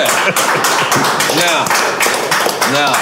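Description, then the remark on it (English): Loud, steady audience applause for Steve Rifkin, with dense clapping throughout, while voices cheer and whoop over it in rising and falling shouts. “Let's make some noise for Steve Rifkin.”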